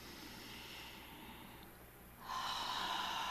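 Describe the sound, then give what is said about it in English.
A long, steady deep breath drawn in through the nostrils during a breathing exercise, a soft airy hiss that swells noticeably louder partway through and holds to the end, with no talking. “So we're going to take a deep full breath in through the nostrils.”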